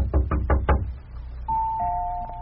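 Four quick, solid knocks on a door, then a doorbell rings with a steady two-tone chime that holds for about a second. Clear, with no voices.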